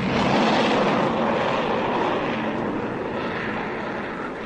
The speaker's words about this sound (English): Sounds like a plane of some kind. Hey, Doc, look. It's one of our fighters.